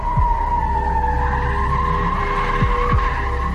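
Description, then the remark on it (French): Tires squeal continuously in a loud, sustained screech as a car skids during a car chase on departmental road 637 toward Fontainebleau, France, with engine roar and low rumble underneath, unbroken for the whole stretch. “Une course-poursuite s'engage jusqu'à la commune de Célie-en-Bière.”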